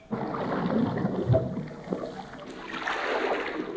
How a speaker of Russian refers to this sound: Заполняем выходной шлюз водой.